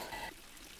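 A brief, steady wash of clear water running in a fountain, splashing, with a slightly brighter burst at the start before settling into a softer continuous trickle.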